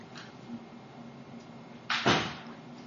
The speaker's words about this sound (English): Actually, hold on. I need to close the door. I'll be right back.